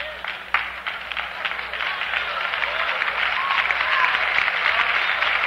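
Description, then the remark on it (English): An audience claps together in a steady, dense wash of overlapping hand claps that grows slightly louder over about five seconds, with no voices rising above it. “Everybody in here should have clapped.”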